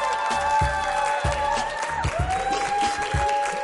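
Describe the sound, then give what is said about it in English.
A large audience, including a group of students from Boston Adventist Dream Academy, claps and cheers loudly and steadily for several seconds at the Hall at Patriot Place, welcoming Deion Lewis, with scattered whoops and hollers rising above the dense wash of applause. “A round of applause.”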